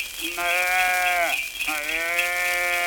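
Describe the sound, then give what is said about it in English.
A calf bleats twice, loud, each call a long wavering cry with a short pause between them, and no other sounds around it. “Oh, look, below, a calf.”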